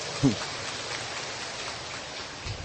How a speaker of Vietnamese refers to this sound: Chúng ta cho một tràng pháo tay cảm ơn bé.